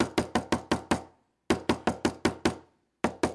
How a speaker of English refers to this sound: He knocked on the door.